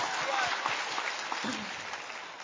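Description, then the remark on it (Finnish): A short burst of applause from a small group for a correct quiz answer, dense steady clapping that fills the whole moment and slowly thins out toward the end, with a faint voice murmuring underneath. “aplodit”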